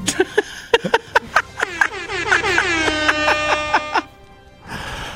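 A loud air horn fires a rapid volley of short, blaring blasts, then holds one long wavering blast before cutting off, followed by a brief burst of noisy rumble.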